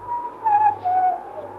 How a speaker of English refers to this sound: And then, the sound of whistling. Faint, but recognizable.